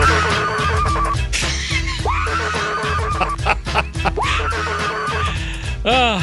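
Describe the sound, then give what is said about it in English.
A woman's muffled, strained screaming into a pillow, set over a loud, steady music track, with wavering rising wails breaking through every couple of seconds and a final quivering cry at the end. “Some guy put music to her screaming in a pillow.”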